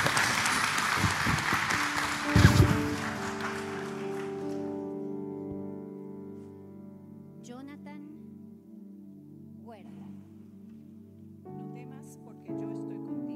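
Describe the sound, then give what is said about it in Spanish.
An audience applauds in a dense burst of clapping that peaks early, then fades out after about four seconds, leaving steady sustained musical tones with a few brief sounds over them. “Damos otro aplauso a cada uno de ellos.”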